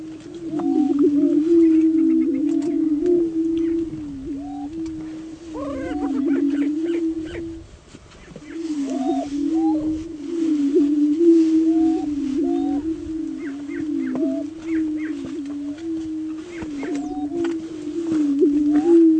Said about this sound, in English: What we're going to listen to now is the sound of a booming prairie chicken.